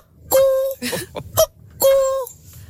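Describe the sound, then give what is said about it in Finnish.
A person mimics a cuckoo's call, with two loud, sustained hooting notes separated by a cluster of shorter, breathy vocal sounds. “Tuo on aamun eka käki.”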